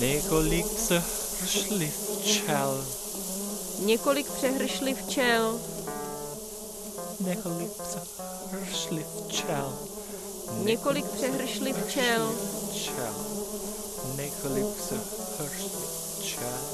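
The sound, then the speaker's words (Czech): A dense swarm of bees buzzes continuously for the whole stretch, many wings droning at once with pitches that rise and waver as individual insects pass by. “Several multitudes of bees.”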